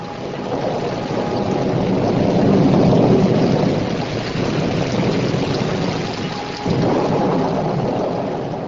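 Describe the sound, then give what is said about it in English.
A dense, steady roar of heavy rain and rumbling thunderstorm noise with harsh winds, lightning and great waves fills the scene, swelling loudly around the middle with a surging, wave-like wash, broken by a brief dip before resuming. “The sage saw all the inhabitants of the universe, including himself, tormented within and without by the harsh winds, the bolts of lightning, and the great waves rising beyond the sky.”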